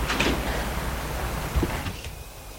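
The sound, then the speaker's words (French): A woman opens the door of her apartment building with her key: a few small metallic clicks, then a soft low thud as the door moves, all over a steady background hiss. No one speaks. “elle va ouvrir la porte de son immeuble avec sa clé.”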